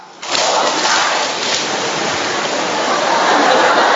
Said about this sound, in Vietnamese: Ông trời ông cũng hợp ý với mình, cũng ào ào, cũng mưa theo nhịp